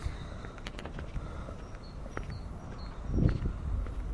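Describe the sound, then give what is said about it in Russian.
A bird heard during the day gives sharp, metallic tink notes, like a tiny hammer striking an anvil, repeating in short irregular taps over a steady low rumble of background noise. “Тринкает по наковальне маленьким молоточком.”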